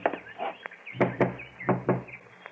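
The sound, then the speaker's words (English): Someone raps on a door several times, sharp knocks coming in quick pairs with brief pauses between them, over a low steady hum and no talking. “get the door.”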